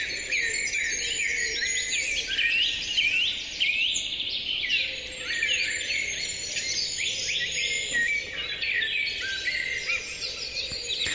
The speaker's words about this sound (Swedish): Ja, det är inte helt lätt att identifiera alla arter om man inte är så duktig på fågelsång. Det här är en inspelning från Nosten utanför Uppsala år 2024 från Fågelsångsnatten i P1.